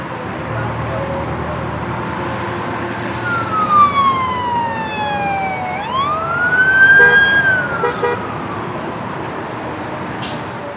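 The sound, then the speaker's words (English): Busy city street ambience in Baltimore, Maryland: a steady wash of traffic rumble while an emergency siren wails, its pitch sliding down and then sweeping back up. “as you can hear, I live in a city.”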